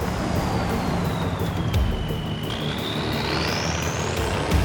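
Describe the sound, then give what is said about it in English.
A military convoy of heavy trucks rolls out of a desert camp in blazing sunshine, rumbling steadily with a dense low-frequency engine roar, while a thin whining tone slides down and then climbs back up in pitch over the continuous traffic noise. “In the desert, the convoy rolls out of the camp in the blazing sunshine.”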